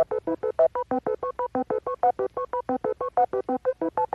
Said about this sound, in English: But now let's get into the games. Cue the beep boops.